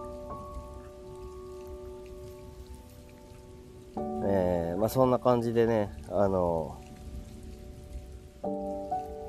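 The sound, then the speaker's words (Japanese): Steady rain patters on a surface throughout, a soft continuous hiss beneath gentle sustained musical tones, while someone talks briefly in the middle. “雨の音はね、いつの時期聴いてもいいよね。”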